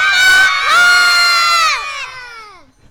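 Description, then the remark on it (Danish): A group of children shout together, calling for Santa Claus, in a loud, sustained chorus: two long overlapping calls that rise and then trail off downward as their voices fade out. “Prøv at råbe. Nu skal I lige råbe.”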